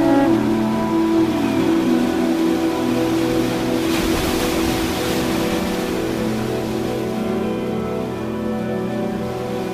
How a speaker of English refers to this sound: Sensation, fizz. Salt water circulating past and through the ruffled aperture.